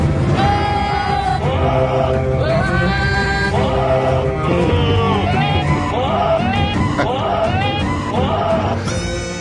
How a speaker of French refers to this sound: 4, bah, ça signifie aussi la fin des génériques parodiques chantés par des chèvres.